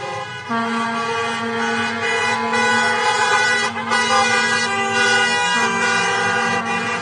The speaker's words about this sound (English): But first, a crush of cars and trucks, flags waving, horns honking, crowded into the streets in front of Michigan's Capitol today.